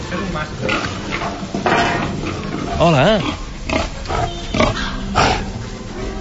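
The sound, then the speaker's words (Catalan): Grunts, rough snorts and oinks from a large pig less than a metre away, repeating irregularly, mixed with people talking and a brief higher wavering squeal in the middle. “Aquí veiem els porcs.”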